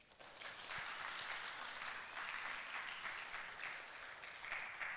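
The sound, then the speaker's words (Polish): Sustained audience applause at a song festival laureates' concert, a dense steady wash of many hands clapping from start to finish, no voices over it. “Oklaski!”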